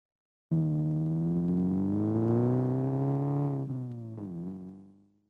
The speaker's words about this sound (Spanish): Esto es un coche.